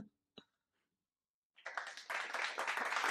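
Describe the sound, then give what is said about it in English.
After a quiet moment and a single faint tap, a dense round of applause for a very itchy new tattoo breaks out, many hands clapping together in a steady, building crackle that stays loud to the end. “Round of applause for the itching. Round of applause for the very itchy tattoo.”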